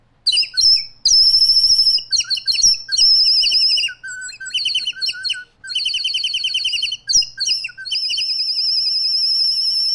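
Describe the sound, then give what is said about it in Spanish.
A small native songbird sings alone, a loud, continuous run of bright chirps, whistled trills and rapid warbling phrases with only brief pauses. “Le voy a dedicar esta armoniosa canción de un pajarito criollo.”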